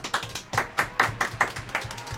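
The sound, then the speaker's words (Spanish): A short burst of studio applause: a few hands clapping in a quick, fairly steady rhythm, about eight sharp claps at moderate volume with no voices. “Un aplauso a Radio.”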